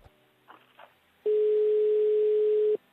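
A steady telephone ringback tone from a call to a mobile phone sounds loudly for about a second and a half, a single sustained pure tone, preceded by a few soft clicks and faint line noise.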